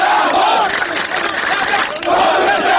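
A large protest crowd in Khuzestan, Iran, chants slogans against the transfer of a river's water, loud and sustained, voices rising and falling in rhythmic shouted phrases with a brief dip midway before surging again.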